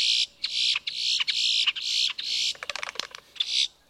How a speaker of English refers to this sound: And boat-tailed grackles offer their own rough music.